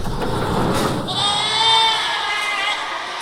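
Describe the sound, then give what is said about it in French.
A crowd of goats bleats in an enclosed barn on a goat farm keeping 400 goats, several overlapping calls rising to a loud, sustained chorus, with shuffling and muffled thuds in the background. “On s'occupe de 400 chèvres et on exploite 200 hectares.”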